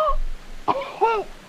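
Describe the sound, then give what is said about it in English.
A person in a car makes a short burst of hacking, retching vocal noises, two throaty coughs with strained harmonics, mimicking a cat bringing up a hairball. Fairly loud, no words spoken. “Don't you hairball in our car.”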